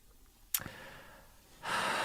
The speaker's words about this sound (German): Ich komme gerade in schwere Schnaufen, nicht?